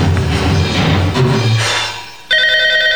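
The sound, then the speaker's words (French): A muffled, rumbling stretch of background noise fades, then a loud, bright telephone ring cuts in abruptly near the end with a steady electronic tone. “que je suis donc tanné de ce téléphone-là. Oui, allô?”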